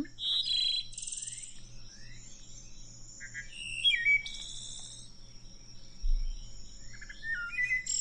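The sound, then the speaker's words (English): A wood thrush song played from the Audubon Birds app on a phone: clear, fluting phrases with trilling flourishes, each phrase separated by short pauses, over a steady low hum and faint insect-like background. “Is that the wood thrush?”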